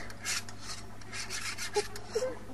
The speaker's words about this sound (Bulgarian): Това какво е? Това са червенокожите, които си точат ножовете.